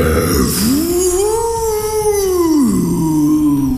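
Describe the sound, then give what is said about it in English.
A single loud howl from Dogzilla, breathing a frosty breath into the clouds and aiming its snout, rises in pitch, holds a long wavering note, then slides down and trails off, with no talking around it. “The freed snow ghosts fly up as Dogzilla breathes a frosty breath into the clouds, howling and aiming its snout with purpose as it seems to build a massive ship of ice.”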